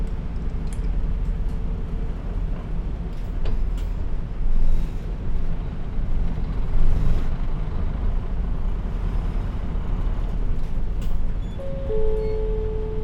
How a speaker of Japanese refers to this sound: お待たせいたしました。このバスは筑波大学循環、右回り、筑波大学病院東第三エリア前経由、筑波大学中央方面行きでございます。次は東小学校でございます。